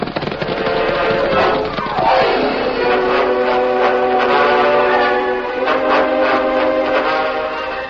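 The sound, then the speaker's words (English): A wailing locomotive whistle of a work train arriving on the main track beside a telegraph office, in drizzling rain, sounds loud, holding a long steady tone after a downward pitch slide, over a constant rumbling, crackling rush of background noise. “It was only a short time later, and the rain had slackened to a drizzle, when a wailing locomotive whistle announced the work train's arrival on the main track beside the telegraph office.”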